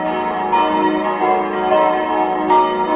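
Five bronze bells in the bell frame of the church tower in Roth, with a total weight of 4,203.5 kilograms, ring together in a full, continuous peal, their overlapping strikes blending into a dense, resonant wash of tones with steady loudness and no voices.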